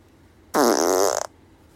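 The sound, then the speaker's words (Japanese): A single loud fart at night lasting under a second, buzzy and wavering in pitch, heard alone against a quiet background with no talking. “おならが出そうなので出していきます。”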